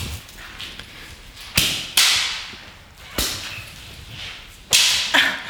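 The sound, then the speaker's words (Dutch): Five sharp, loud whip-like slaps, struck by dominant partners on submissives, land at irregular intervals, some in quick pairs, each a bright snap that fades fast. No one speaks. “ik ga eventjes om jullie heen lopen terwijl jullie beginnen met het slaan”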